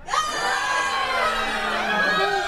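A crowd of people screaming and shouting together in a sustained, dense wall of overlapping voices, loud, with no clear words and no pauses throughout.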